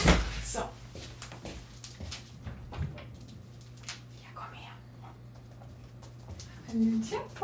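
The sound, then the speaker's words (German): A chair creaks and shifts with soft knocks and rustling as someone rises, ending in a short squeak, with a low steady hum underneath. “Achtung, wird vielleicht ein bisschen quietschen, der Stuhl.”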